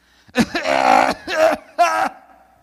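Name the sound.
imitated smoker's morning cough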